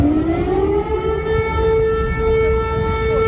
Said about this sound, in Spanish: Aquí acaban de sonar las sirenas en una cola de refugiados.